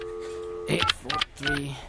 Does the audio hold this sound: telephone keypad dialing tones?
yes